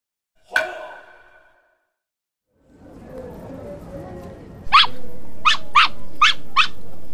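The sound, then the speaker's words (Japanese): A small dog named Pochi, a toy poodle wearing clothes, gives one sharp yip, falls quiet, then growls low before letting out five quick, high-pitched yaps in a rapid burst, loud. “吠えちゃダメ。”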